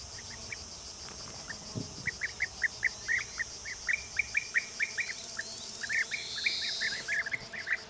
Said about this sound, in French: Plus à droite, tu peux observer une joyeuse colonie de guêpiers communs.